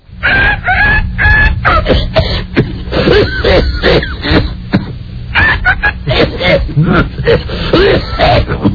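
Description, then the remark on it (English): A rooster sound effect, 'Phlegm the rooster', fills the stretch: repeated crowing and squawking calls in quick, ragged bursts, loud and strained, with a brief lull in the middle and a steady low hum underneath. “And Phlegm the rooster is not ready yet.”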